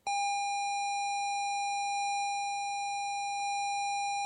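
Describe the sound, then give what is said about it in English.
A Sinclair Spectrum computer tape loading tone: a loud, steady, buzzy square-wave pitch that starts abruptly and holds unbroken throughout, with a faint low hum underneath. “This is a Sinclair Spectrum loading.”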